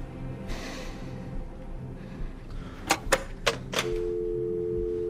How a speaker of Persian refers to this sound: گوشی رو برمیداره. شماره 112 رو گرفت.